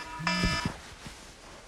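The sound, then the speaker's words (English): A phone alarm goes off in the morning, sounding as one short, buzzy electronic tone lasting about a third of a second, accompanied by a couple of soft low thumps, then fades into quiet room noise. “I snap awake in the morning with my phone alarm going off.”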